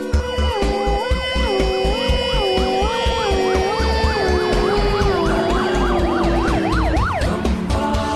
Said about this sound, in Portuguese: Vamos agora dar passagem para o corpo de bombeiro.